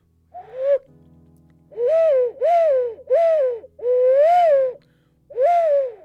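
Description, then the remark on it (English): An ocarina played clumsily, giving six breathy, owl-like hoots of uneven length, each pitch sagging at the end, fairly loud over a faint low hum. “Shit, ocarina, lads, I apologise.”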